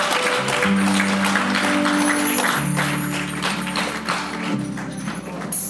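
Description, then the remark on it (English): A church audience gives the Lord a loud clap offering after a prayer, clapping loudly and steadily for several seconds, a dense wash of hand claps over sustained low keyboard or organ chords. “Somebody please give the Lord a loud clap offering.”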